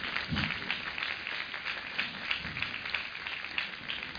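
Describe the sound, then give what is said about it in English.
An audience claps steadily for the women present, about four seconds of a dense, even patter of many hands at a fairly soft level, with no one speaking over it. “Give the women a clap.”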